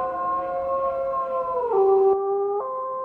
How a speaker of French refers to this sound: Il ranimait en lui la vie de jadis, et quand dans la nuit froide et immobile il pointait le nez vers la lune et poussait un long hurlement de loup, c'était ses ancêtres, morts et enterrés, qui hurlaient à travers les siècles et à travers lui.